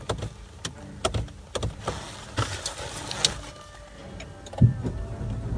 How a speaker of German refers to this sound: Das Auto. Mach mir keine Angst.